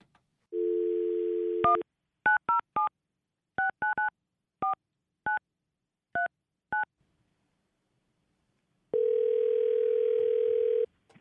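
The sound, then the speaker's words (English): A phone dial tone hums briefly, then about ten touch-tone keypad beeps are punched in an uneven rhythm, followed by a pause and a single steady ringback tone on the line, while calling a dog musher. “Let's dial him up.”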